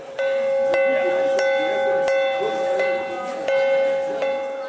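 A bell rings steadily and loudly, struck in a regular rhythm about every second, announcing it is time to enter the screening room for the film O Espinho da Rosa, its tone hanging over a faint murmur of people in the background.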